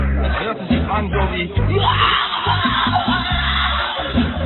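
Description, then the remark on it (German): A voice lets out a drawn-out, strained cry imitating the desperate scream the Indians of Patagonia give when they wake up, loud, with rough harmonic wavering and no words, sustained for several seconds. “Ese grito de desesperación de los indios de Patagonia cuando se despierta.”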